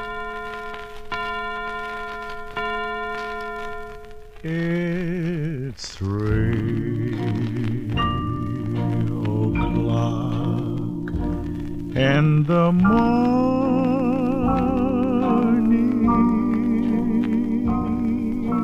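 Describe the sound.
Bell-like chimes ring out at the start, then a vocal group sings a slow song in close harmony, with layered voices holding long, wavering notes at a steady, full volume, from a vocal group recording issued on Aladdin Records in late 1953.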